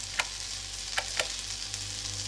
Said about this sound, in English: Right. Turn on the empty electric hob and heat up that soup.